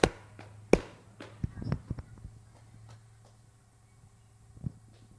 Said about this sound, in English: They usually clap their hands, you know. In Fiji, they clap twice. But these guys, they never drink the stuff for so long, they forgot how to clap their hands. But it's supposed to sound like this.